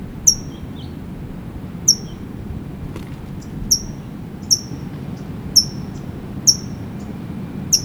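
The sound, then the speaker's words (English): A towhee gives sharp, high chip calls, about seven of them spaced unevenly across several seconds, each brief and clear above a low, steady rumble of background noise. “That's a Tohi chipping.”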